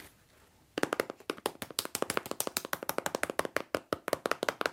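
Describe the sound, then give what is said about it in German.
Rapid, steady tapping of pencils drumming on a pencil case, dozens of sharp dry clicks in a quick even rhythm, starting after a short quiet pause with no talking. “Und jetzt noch aus meinem Federmäppchen. Das ist eine richtige Trommel, oder?”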